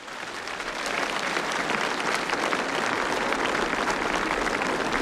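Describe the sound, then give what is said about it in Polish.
Sustained applause from a large crowd for Pope Francis, swelling in the first second and then holding steady as a dense, loud wash of clapping with no voices standing out. “Brawa dla Ojca Świętego Franciszka.”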